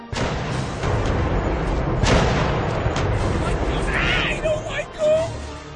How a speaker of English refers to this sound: Look there, mateys! The great ghost ship fires ghost cannons! The mighty ship can't hurt anyone, but it will surely scare away a lot of unworthy treasure hunters!